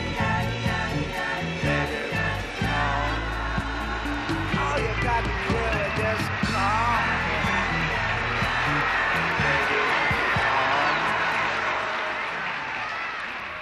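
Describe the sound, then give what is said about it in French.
A crowd cheers and applauds steadily over loud live music, the noisy roar holding throughout before easing slightly at the end. “Voilà, sous les acclamations de la foule”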